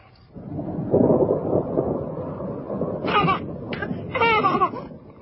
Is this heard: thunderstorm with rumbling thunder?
yes